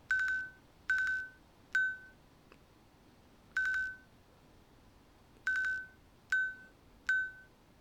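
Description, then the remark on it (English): A touchscreen device's tap-to-buzz-time feature, triggered by a one-finger double tap, buzzes out the time 11:57 in a coded pattern of vibrations: about seven steady, mid-pitched buzzes, some long and some short, separated by brief pauses, with no talking. “If I touch the middle of the screen, one finger double tap and have a listen. Tap to buzz time.”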